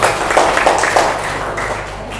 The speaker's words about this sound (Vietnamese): Cho một chàng vỗ tay đi quý vị.